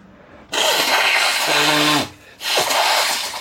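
Someone blows their nose hard into a tissue in two loud, rushing blasts, the first ending in a low honking rattle, followed by a short pause and a second forceful blow.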